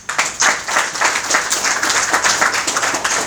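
A crowd applauds the director of the Institut de formation des formateurs pour le développement, many hands clapping in a dense, sustained burst that stays loud throughout with no voices over it.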